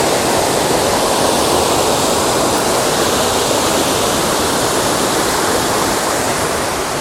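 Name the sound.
running water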